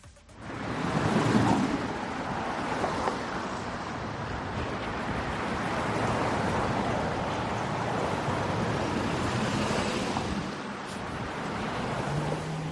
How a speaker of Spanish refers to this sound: Pues estamos escuchando motores, y es que muchos ahora mismo quieren entrar hasta el centro de la capital.